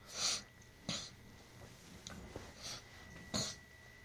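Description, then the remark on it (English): A handful of short, breathy nasal sniffs at irregular intervals, fairly quiet, with a couple of sharper snorting bursts standing out among them and no talking, from a person with nasal problems while making a video. “I always get nasal problems whenever I do these, no matter how many times I blow my nose or clear my throat before I make a video.”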